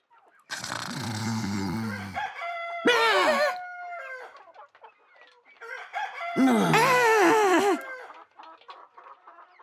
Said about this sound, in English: Cockerel.